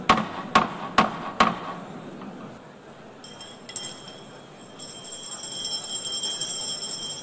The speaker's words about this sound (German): Dünn, hämmert ein bisschen umeinander. Ihre Kollegin bimbelt mit einem Glöckchen dazwischen.